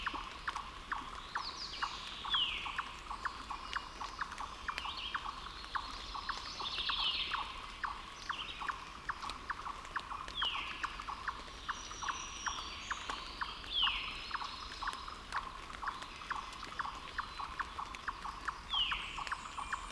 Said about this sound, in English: I presume a hawk must have flown by before I arrived on the scene. Why? Well, because this is the chipmunk's hawk alarm call. Just listen to these little guys, clucking so excitedly with raindrops falling all around.